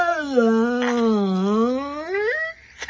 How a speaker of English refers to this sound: You're hearing my dog.